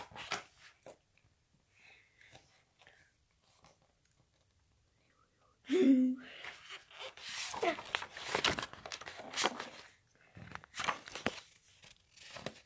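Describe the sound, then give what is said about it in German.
Pages of an old Nicht Lustig comic book rustle and flip in a run of crisp, papery bursts after a quiet stretch with faint whispery sounds, the turning loud and uneven with brief pauses between flips. “Ich würde sagen, wir blättern einfach mal ein bisschen rum.”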